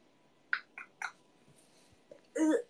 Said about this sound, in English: Sorry. Sorry for burping.